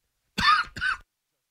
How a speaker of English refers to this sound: Sorry, the cough got me.